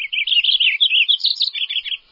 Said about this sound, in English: Okay now, which of these two qualities, ratchety or ringing, would you say describes the sound of this marsh wren? If you said ratchety, you're right. The song of the marsh wren has to cut its way through the dense vegetation of a cattail marsh.